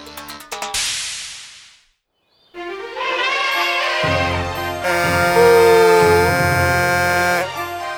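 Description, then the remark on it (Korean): A short hissing whoosh and a brief pause, then a loud, sustained brassy trumpet blast from an elephant character in a children's story, blown to gather the forest animals to a cake, blares for several seconds, layered tones swelling with a deep rumble underneath before cutting off. “코끼리 아저씨가 나팔을 불자 숲속 동물들이 케이크에 모였어요.”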